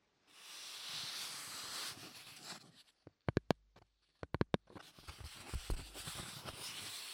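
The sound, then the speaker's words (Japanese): Handling of a stiff, slightly slick autograph board (shikishi): smooth, hissy rubbing and sliding, then a cluster of sharp taps and flicks, followed by more brushing. No voices. “次はね、サイン色紙。”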